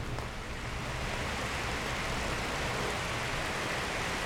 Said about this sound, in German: Es gießt aus Eimer. Der Regen trommelt auf die Dächer, Boote schaukeln im Wasser.